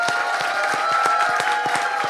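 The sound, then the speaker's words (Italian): The audience in the stalls applauds the 25 cartoonists on stage, many hands clapping in a dense, sustained patter with sharper individual claps standing out, loud and continuous throughout with no talking over it. “Sì, perché sono 25 disegnatori, però vorrei far sentire anche al pubblico a casa un applauso da parte della platea, non per noi, sì, ma per i disegnatori.”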